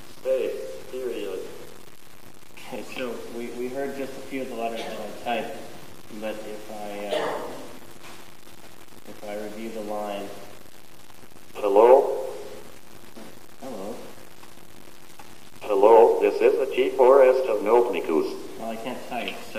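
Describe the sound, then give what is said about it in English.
A synthesized Copernicus screen reader voice, set to character echo, speaks in short, separate bursts with brief pauses, reading aloud every character as sample text is typed in gedit. It's clear, with no other talk. “Currently it's set to character echo, which means it'll read every character I type.”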